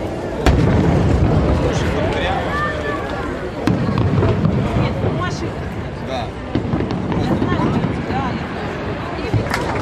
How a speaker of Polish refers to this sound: Wieczorem niebo nad wieżą Eiffla przybrało tęczę barw. Pokaz fajerwerków trwający ponad 40 minut przyprawiał o zawroty głowy.